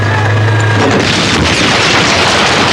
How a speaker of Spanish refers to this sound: El humo de una explosión engulle a Afan.